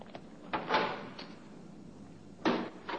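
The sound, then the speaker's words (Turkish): Guards open a door with a scraping, grinding sweep followed by a heavy knock, then a second loud thud a couple of seconds later. “Kapıyı açın.”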